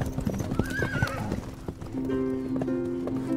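Rhythmic hooves clip-clop along while a horse lets out a loud, wavering whinny, followed by a longer, sustained neigh as the hoofbeats continue.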